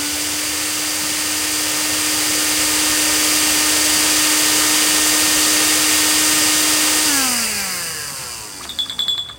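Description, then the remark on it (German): An immersion blender whirs loudly and steadily for several seconds with a constant motor hum as it purees peeled and pitted fruit flesh for sorbet, then winds down with a falling pitch and a few clattering knocks at the end. “Dann hole ich direkt mal den Pürierstab und dann wird das Fruchtfleisch zu Püree verarbeitet. Achtung, jetzt wird es kurz richtig laut.”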